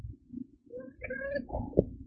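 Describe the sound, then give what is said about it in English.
A small, high-pitched meow from a female cat about a couple of years old rises and wavers for about a second over a low, muffled rumble and soft thumping in the background. “That sounds like a somebody's baby kitty.”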